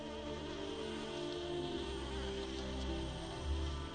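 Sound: bees buzzing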